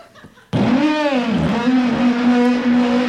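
A car engine is started: it catches abruptly after a moment of quiet, then runs loud with a steady droning hum, its pitch dipping and rising slightly as it revs.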